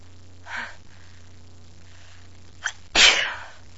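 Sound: sneeze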